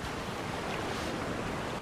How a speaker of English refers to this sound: Waves lap over her.